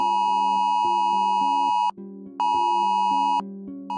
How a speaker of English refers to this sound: So, have you ever wondered why emergency alerts like the Amber Alert are able to sound on your phone, even if it's in silent or sleep mode?